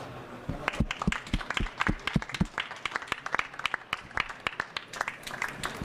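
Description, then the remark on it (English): An audience breaks into warm applause for a speaker at the end of a talk, many hands clapping in a dense, irregular patter that stays fairly steady for several seconds, with no one speaking over it. “I think we can give him a warm applause.”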